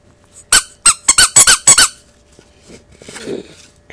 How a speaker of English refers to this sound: He buys a shiny whistle and goes tooting out the door.